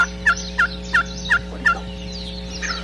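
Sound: wild turkey gobbling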